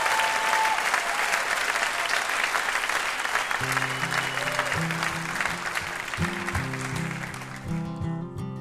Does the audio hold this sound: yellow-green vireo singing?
no